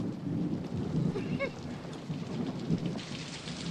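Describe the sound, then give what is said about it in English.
Steady torrential rain pours and patters against a window, a dense continuous wash with low rumbling beneath, suggesting a storm outside. No voices are heard. “A solemn-faced Lisa stares out of a rain-lashed window.”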